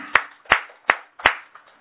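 Audience applause in unison celebrating a man's 55th birthday: four sharp, evenly spaced hand claps at a steady beat, then a faint trailing clap, with no voices.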